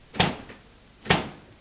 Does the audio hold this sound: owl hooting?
no